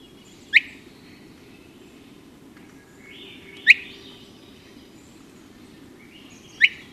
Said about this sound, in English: So let's talk about another one, the Swainson's thrush. Yes. Let's hear this.